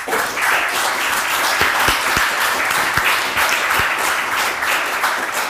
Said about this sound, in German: Vielen Dank schon mal vorab an die Tabletop Freibeuter und unser Haus in Bergedorf. Denn die veranstalten das Ganze. Hier haben wir einen fetten Applaus.